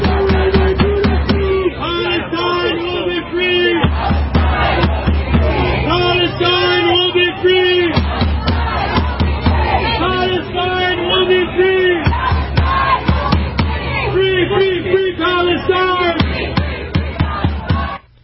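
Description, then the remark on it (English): A large crowd of about 200 pro-Palestinian protesters in downtown Kirkland chants "From the river to the sea, Palestine will be free" loudly in unison, the same rhythmic phrase repeating about every four seconds, with shouts and voices overlapping throughout. “But listen to the chant by the pro-Palestinian faction.”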